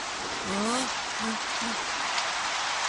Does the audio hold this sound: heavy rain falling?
yes